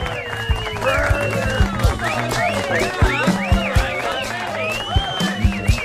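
An audience applauds with steady, dense clapping, mixed with excited cheering and shouting voices rising and falling over a constant crowd roar, with sharper loud bursts throughout.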